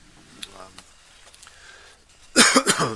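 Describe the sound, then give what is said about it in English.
A brief low vocal murmur, then near-silence, then a loud, harsh throat clearing bursts out in a few rough pulses at the end, from a speaker struggling to talk with a dry throat. “I feel like, you know, I'm struggling to fucking talk and fucking, I'm like clearing my throat and just like, dude, I can barely like swallow.”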